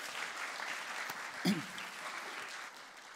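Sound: audience applause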